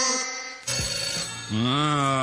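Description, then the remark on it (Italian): A telephone rings with a loud electronic tone, sustained buzzy notes that change pitch partway through and glide at the end. No one speaks. “Rispondi tu, dai, sentiamo un po'. Pronto?”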